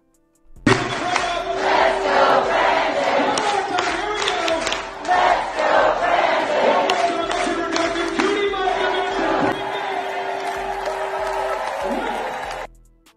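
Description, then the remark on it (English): A large crowd chants the slogan "Let's go, Brandon" in unison, loud and sustained for about twelve seconds, the rhythmic voices blending into a dense roar with a steady droning tone running underneath. “And what they're chanting is "Let's go, Brandon."”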